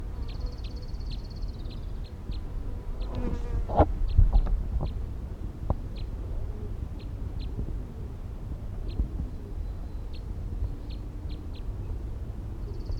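wild bird calling

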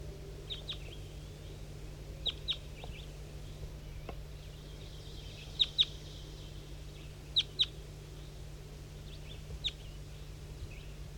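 wild birds calling

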